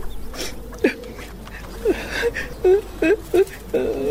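A woman cries and whimpers in short, shaky sobbing bursts, several catching breaths spaced irregularly, moderately loud over a faint background hum.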